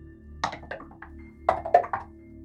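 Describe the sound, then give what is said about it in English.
Dice rolled for an insight check in a tabletop role-playing game clatter across a hard surface in two quick bursts, each a rapid run of small clicking, tumbling knocks that settle within about half a second, over a low steady hum with no talking. “Let's roll dice about it.”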